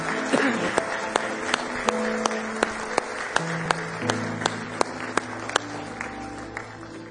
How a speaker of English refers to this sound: Somebody say praise the Lord. Somebody say praise the Lord. Let's give our Lord one more hand clap of praise this morning.